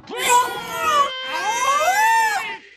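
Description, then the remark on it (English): Two long, moaning whale calls with rich harmonics. The first wavers and slowly drops in pitch, and after a short pause the second rises, swoops and falls away. Both are loud and clear, with no talking. “This is the whale again.”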